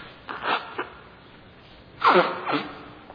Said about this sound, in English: You must excuse my sniffling. It's not a cold. I've got a bit of an eye problem, and I'm teary on the left side, so excuse me when this happens once in a while.